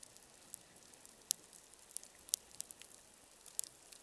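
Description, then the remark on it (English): Underwater reef soundscape, recorded by hydrophone before seismic surveying, of snapping shrimp and feeding fish: a steady, faint crackle of sharp clicks, with a handful of louder snaps popping out at irregular moments over a quiet background. “This is the reef before seismic surveying, the sound of fish and shrimp feeding.”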